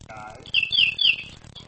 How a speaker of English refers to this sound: That bird's going to die. The birds have been singing a lot lately. Yeah, they're happy to die. All night.